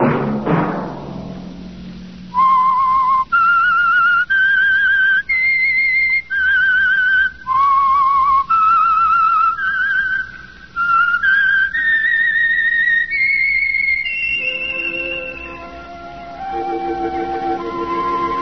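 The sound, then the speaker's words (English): A lone whistled melody, the theme signal of a Sunday-night radio program, rises and falls in clear, sustained, loud notes before fading into soft orchestral tones at the end. “Let that whistle be your signal for the Signal Oil program, The Whistler, each Sunday night at the same time”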